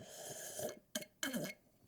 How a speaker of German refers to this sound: Ja, das bedeutet auch, und das habe ich auch aus anderen Podcasts, dass man mal irgendwie was trinken muss zwischendurch. Das hört sich dann so an. Also wichtig ist, dass ihr mal schmatzt dabei. Also so.